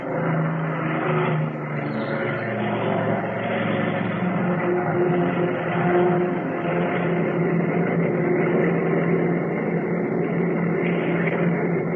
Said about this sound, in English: The engines roared, and I felt the familiar pull of speed as the big plane raced down the runway. And within a matter of seconds, we were airborne.